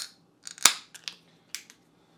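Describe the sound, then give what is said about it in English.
A container of double New England IPA beer being opened: a few sharp metallic clicks, then one loud crack and several quick snaps trailing off, with no talking. “Let's go ahead and get this thing open.”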